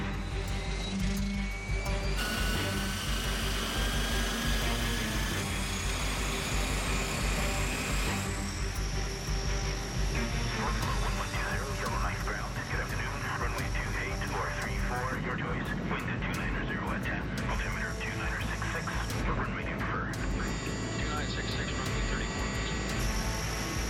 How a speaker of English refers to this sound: The Electra finally taxis away toward the runway, loaded with presents for kids up the Mackenzie Valley.